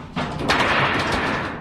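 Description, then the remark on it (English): A shaken sheet of tin or aluminum, used as a homemade instrument for the Trash Orchestra, gives a loud, continuous rumbling crash like thunder, with a sharp surge at the start and a second swell before it trails off. No one speaks. “This is just a piece of tin or aluminum or something. And it'll make an instrument that sounds a little bit like this.”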